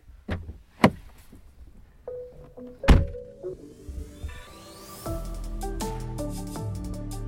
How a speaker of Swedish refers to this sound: Så jag hoppar ur bilen nu